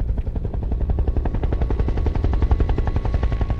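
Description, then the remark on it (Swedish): A helicopter carrying an NRK film crew flies in over Utøya, its rotor blades beating in a rapid, steady thudding rhythm that stays loud throughout, with no voices. “Helikoptern som flyger in över Utöya kommer inte från polisen eller ambulansen.”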